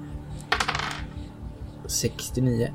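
Dice rattle and clatter across a hard surface in a bright burst, then skitter again briefly before settling, with a soft murmured hum from a voice near the end.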